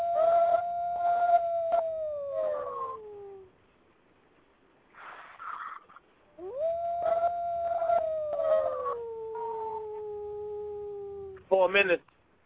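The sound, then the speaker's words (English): A person imitates a wolf, giving two long, drawn-out howls that slide downward in pitch, loud, with some voices talking underneath and a brief harsh burst at the end. “Yeah, that's me actually doing the call for your mom right now.”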